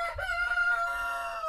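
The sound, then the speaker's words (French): A rooster, kept with a family's hens, crows in one long, sustained call with a bright, strained harmonic tone, clear, with no speech over it. “On a des poules avec un coq.”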